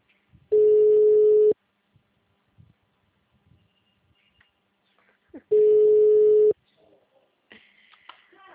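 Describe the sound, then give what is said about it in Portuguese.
A phone ringback tone for an unanswered call that is forwarded to voicemail: two steady one-second beeps about four seconds apart, clear and prominent, with faint background noises in the gaps and a brief hiss near the end. “Olha lá, a Buda está tocando só no telefone de alguém.”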